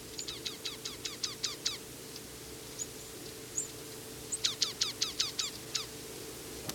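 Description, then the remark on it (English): A foraging chickadee gives a quick series of high, thin whistled notes, two rapid bursts of about eight each with a few scattered single notes between, over a low steady rumble. “Chickadee's giving high whistles. Still foraging though.”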